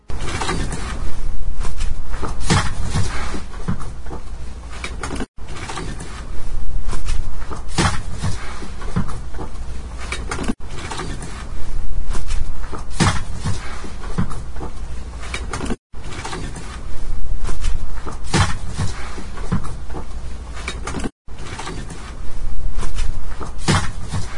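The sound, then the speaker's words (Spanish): A Mauser C-90 rifle, the kind used by the Nationalist side in the war, has its bolt clack open and shut, then a sharp gunshot cracks out. The same sequence repeats five times with short breaks between, over a steady background hiss. “Y se escucha cómo ese cerrojo se abre, se cierra y el disparo.”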